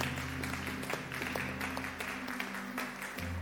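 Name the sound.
audience clapping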